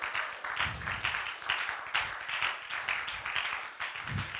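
An audience claps continuously for God during preaching, dense overlapping hand claps forming a steady, crackling wash with slight swells in loudness, no voices standing out.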